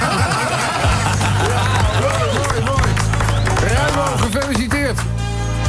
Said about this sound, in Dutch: Ja, en dit applaus is voor jou.